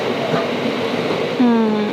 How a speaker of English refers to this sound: There are people on this train platform.